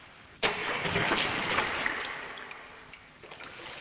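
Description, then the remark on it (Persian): A well's pulley starts up abruptly, giving a steady creaking, grinding rasp as a bucket of water is hauled up from the well by rope. It is continuous, and it fades slightly toward the end with no voices. “میشنوی؟ ما داریم این چوه از خود بیدار میکنیم، اون داره برامون آواز میخونه.”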